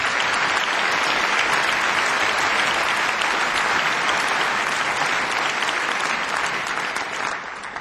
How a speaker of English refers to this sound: Have a nice round of applause for … at the drums.